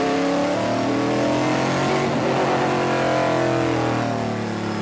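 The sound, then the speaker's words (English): A car engine roars loudly and steadily for the whole stretch, its pitch climbing and dipping as the driver accelerates past 100 around a wet race track on an early lap, getting heat into the tires. No one speaks. “But the track is wet, or might be wet, or there's still a bunch of droplets on the window that you'll see is when you go around, scared to get into it because the car will just flip around.”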